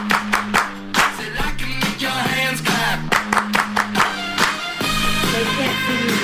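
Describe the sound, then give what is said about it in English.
Sharp, rhythmic hand claps punctuate a loud music track, landing in quick bursts over a steady bass line and sustained instruments. “I can make your hands clap.”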